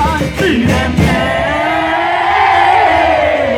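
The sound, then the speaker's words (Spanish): A large crowd at a carnival cheers loudly, a sustained roar of voices with whoops and shouts rising over it, dense and continuous across the whole stretch. “Quien recibe esos aplausos siempre se agradecerá.”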